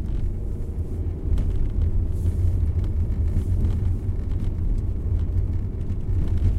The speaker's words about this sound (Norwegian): Jeg har satt kurs mot vestsida av Mjøsa. På utsida av bilen kommer snøbrøytekanten høyere og høyere opp i bilruta, til lengre inn i innlandet jeg kjører.